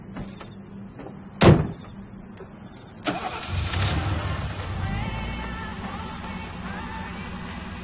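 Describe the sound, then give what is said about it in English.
A car door shuts with one loud, sharp thud as a man gets into the driver's seat of his car outside, followed a moment later by a softer clunk as an engine turns over and settles into a low, steady rumble. No one speaks. “Outside, David walks up to his car and gets in the driver's seat.”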